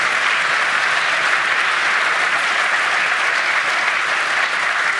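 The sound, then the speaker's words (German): A large audience applauds the announcement of a new CCC content management system, clapping steadily for several seconds, a dense, continuous wash of applause at full strength with no pauses and no one speaking over it. “So, also was man dazu sagen Applaus.”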